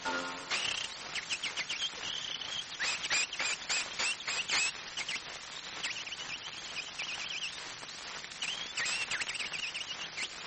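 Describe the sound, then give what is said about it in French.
A person whistles an imitation of nightingale song: rapid chirps, trills and sliding high whistles in quick varied bursts, fairly loud, with no talking. “Le rossignol l'entonne, le refrain que voici.”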